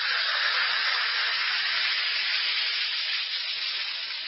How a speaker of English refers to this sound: That's action in the glass. Yes, it's action in the glass, changing Alka-Seltzer tablets into the liquid form your system can use easily.